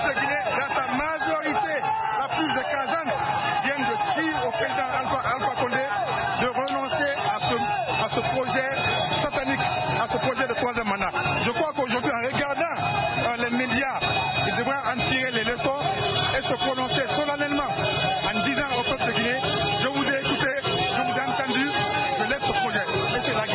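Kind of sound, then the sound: crowd, protest crowd chanting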